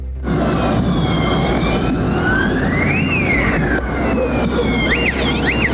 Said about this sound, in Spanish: Claro, podíamos escuchar ahí distintas sirenas y estruendos que se escuchaban, digamos, en estos enfrentamientos en plena Alameda, a la altura de Estación Central, producto de los distintos desmanes que se estaban desarrollando